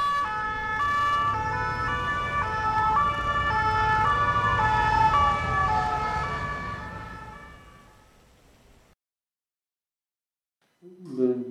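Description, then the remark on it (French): Ambulance and fire engine sirens in France wail together, their two-tone and sweeping pitches overlapping loudly over a low traffic rumble, then fade away into silence before a brief voice at the end. “Quand on est sorti, j'ai entendu plusieurs fois la sonate des ambulances et des pompiers.”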